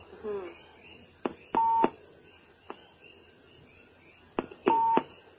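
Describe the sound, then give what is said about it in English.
Odd electronic beeping: two short, steady tones a few seconds apart, each preceded by sharp clicks, with a brief murmur of a voice at the start and a faint hum underneath. “I have a strange beep.”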